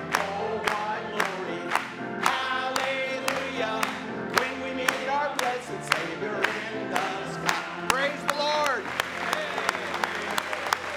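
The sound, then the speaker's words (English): An audience claps in a steady, even rhythm, sharp beats about twice a second, under loud sustained singing voices with a warm musical backdrop throughout. “Lord, a great big hand tonight.”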